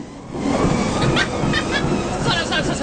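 A treadmill sound effect: a steady mechanical whir with a loud, constant rumble, broken by regular rhythmic thumping like a treadmill belt and footfalls running continuously.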